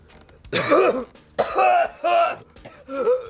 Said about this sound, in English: He holds the smoke in his lungs, then coughs.